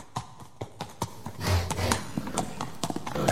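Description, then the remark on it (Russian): Horse hooves clip-clop in a steady rhythm, the hollow knocks coming faster and busier partway through as the horse picks up pace, with no voices. “Незаметно пробрался Шьер-батор назад, к своему коню вскочил на него и вернулся к побратимам”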